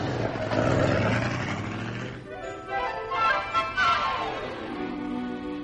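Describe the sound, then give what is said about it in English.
A car engine, a new convertible, rumbles, then revs through a few rising, whining surges as the vehicle pulls away, with no voices heard. “Oh, thanks a lot for the ride in your new car,”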